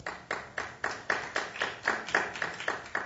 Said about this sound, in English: So this being recorded, of course, don't raise your hand, clap. Let me know if you think that Mitt Romney is going to win in November.